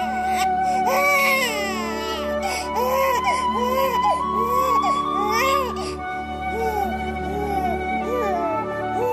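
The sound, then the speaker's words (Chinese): A newborn baby, Thomas Lincoln's second child, wails inside a simple log cabin in a wood in Hardin County, Kentucky, on 12 February 1809, during a snowstorm, in repeated rising-and-falling cries, loud, with short breaths between bursts, continuing steadily for several seconds over a faint background hum. “而风雪之中，西元1809年2月12号这一天，肯塔基州哈定县的一片树林里，一栋简陋的小木屋中传出了婴儿的哭声。”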